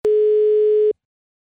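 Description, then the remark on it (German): A single steady telephone ringback tone, a clear mid-pitched beep lasting just under a second, followed by silence, as heard while a call is placed for a telephone interview with the head of the Augsburger Puppenkiste puppet theatre. “Und ich bin jetzt mit dem Leiter zum Telefoninterview verabredet.”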